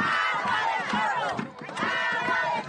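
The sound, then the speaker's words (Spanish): A protesting crowd near the Presidential Palace in Venezuela shouting together, a dense roar of many raised voices with overlapping yells rising and falling, loud and continuous with a brief dip midway. “Una protesta en los alrededores del Palacio Presidencial venezolano.”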